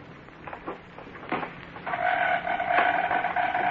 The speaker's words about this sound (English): As we look in on the little community today, it is late at night, and Abner and Cedric are stealthily entering the back door to the feed room. Listen.